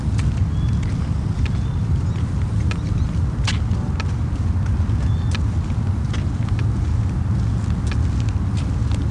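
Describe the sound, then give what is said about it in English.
A car engine rumbles steadily, a continuous low drone with scattered light clicks and taps over it and no voices, as the car is brought around. “He's bringing the car. He went back. He'll bring it around.”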